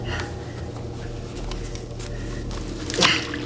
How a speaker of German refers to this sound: Die Harmony-Lösung plätscherte zu Boden.